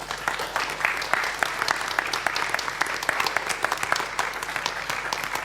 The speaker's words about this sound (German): Ihr bekommt, wenn wir jetzt die Bühne frei machen für die CDAs, dann noch einen kräftigen Applaus.